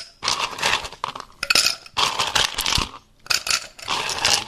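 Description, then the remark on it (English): Ice cubes clatter and clink into a glass in several bright, rattling bursts separated by short pauses, as the glass is filled with ice to make a Midwest Mule cocktail. The clatter is fairly loud, and no one speaks. “Okay, so I'm going to make the Midwest Mule, which it says to fill a glass with ice.”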